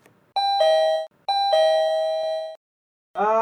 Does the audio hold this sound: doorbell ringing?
yes